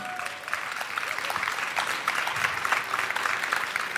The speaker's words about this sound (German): Bitte einen kleinen Applaus.